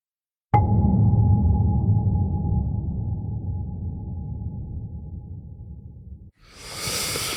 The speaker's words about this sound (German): Da hat ein Wal gefurzt, glaube ich, in der Nähe vom Boot. Die Tiere, die so laut sind.